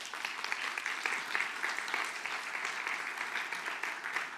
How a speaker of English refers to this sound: I just want us to thank them. I want us to give them a clap for all the work they do to keep us safe. So can we do that?